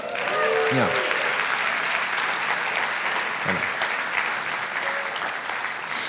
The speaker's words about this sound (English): Congratulations to her, and all those claps